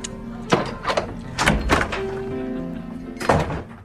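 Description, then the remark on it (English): Several sharp clunks and rattles at an uneven pace as the lock on a white door is picked, followed by the door opening, with a last firm knock near the end. No one speaks. “Kathy sneaks back to the white door and picks the lock on it.”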